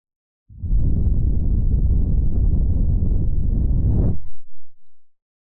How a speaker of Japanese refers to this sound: リラックスしてお姉さんの吐息、いっぱい感じちゃってください